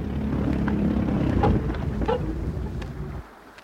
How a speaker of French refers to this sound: Oh zut, mon moteur a calé!